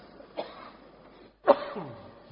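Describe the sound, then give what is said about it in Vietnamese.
Two coughs, a light one followed about a second later by a louder, rougher cough with a throaty tail, heard alone without any talking. “Đấy, Phật tử thương cho nên ho luôn.”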